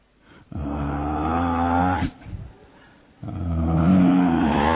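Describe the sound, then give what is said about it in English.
A voice imitates a husband's loud snoring: two long, rough, low-pitched rumbling snores, each over a second long, separated by a brief quieter gap. “Her husband was snoring.”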